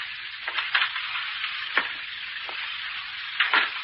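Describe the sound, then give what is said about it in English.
Steady hissing patter of rain begins to fall, a dense crackling wash broken by a handful of sharper, louder drop sounds scattered throughout, with no voices. “It's really beginning to rain.”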